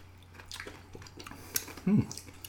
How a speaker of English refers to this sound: Oh, this goes clunk when you have it full of shaved ice.